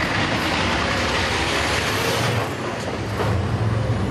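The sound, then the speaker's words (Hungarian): Water tanker trucks rumble steadily, driving continuously to replace the water used to put out a fire; a continuous loud engine drone with a hiss like air brakes around the middle, and no voices. “Közben folyamatosan jártak a vízszállító autók, mert pótolni kellett az oltáshoz felhasznált vizet.”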